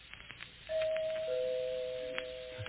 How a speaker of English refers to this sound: I know who it is because... She rings the doorbell instead of knocking. It's his girl.